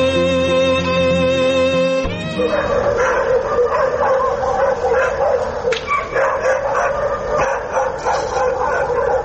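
After a brief steady tone, a pack of stray dogs in the alleys of the city of Kabul erupts into continuous, overlapping barking and yelping, loud, with occasional whimpers mixed into the chaotic chorus.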